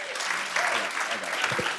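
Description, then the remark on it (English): Audience applause, a dense steady wash of many hands clapping at an even, fairly loud level, with faint voices murmuring underneath. “Let's give him a better hand clap, okay?”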